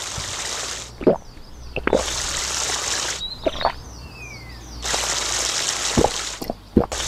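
Water runs from a tap in three steady gushes during ritual washing (wudu), separated by brief pauses filled with splashes, plops and drips, plus a few faint high squeaks.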